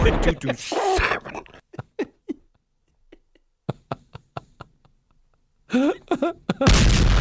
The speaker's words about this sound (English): Oh, there goes another Jody Mac sig cannon.